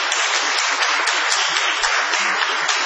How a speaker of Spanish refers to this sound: Muy amables, venos aquí en el Galponcete de Gorriti 5963 y ya casi para unir un aplauso al otro